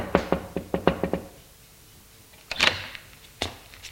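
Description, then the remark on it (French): A father knocks six quick, evenly spaced times on his son's bedroom door and opens it; after a pause comes a short scraping clatter and one final thud. No voices. “Frappe et ouvre la porte.”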